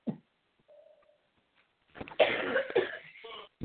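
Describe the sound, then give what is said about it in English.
A person with an allergy coughs in a brief burst, then after a pause lets out a longer, harsh fit of coughing and throat clearing, fairly loud, with a faint tone in between. “Yes, I'm having this little allergy coughing spell, so it's kind of open.”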